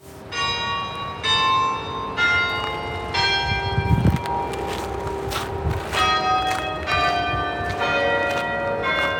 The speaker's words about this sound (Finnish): Kirkonkello kumisee säkkipimeässä illassa. Trondheimin jykevä tuomiokirkko on Pohjoismaiden vanhimpia.